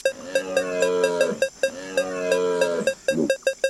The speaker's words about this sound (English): Okay, so I'm going to pull back my bow. And I'm going to move my finger around the screen until that beeping sound gets very fast. And then I'll release my finger off the screen and shoot my bow.